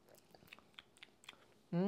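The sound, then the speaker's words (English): Someone sips a creamy cocktail of honey, Rémy and green Chartreuse garnished with a sage leaf: a quiet series of small wet mouth clicks and swallows over a couple of seconds, followed by a voice that starts speaking at the end. “And now drinking the cocktail, let's have our first little sip.”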